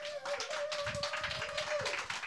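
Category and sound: crowd, audience clapping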